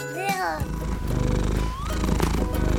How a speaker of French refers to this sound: Est-ce que tu as reconnu ce son? N'est-il pas magnifique? Un chat qui ronronne, il n'y a rien de plus agréable à entendre, sauf peut-être le ressac de la mère.